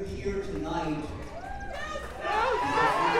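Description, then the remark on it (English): A large outdoor crowd of thousands at a vigil in the Oregon District the night after a mass shooting shouts in unison, chanting "Do something" to shout down Ohio Governor Mike DeWine, many voices blending into a raised, rhythmic chant that swells louder toward the end. “When Ohio Governor Mike DeWine addressed the crowd, he was shouted down with chants demanding action.”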